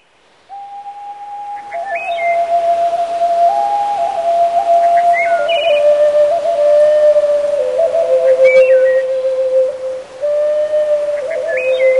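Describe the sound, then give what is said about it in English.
A slow Native American flute melody played in a Western style by a former Western classical flutist, with long, breathy held notes that step gently up and down and brief high chirping ornaments above. It plays alone, with no talking. “he's adopted the Native American flute to Western sound, and he concertizes across the country.”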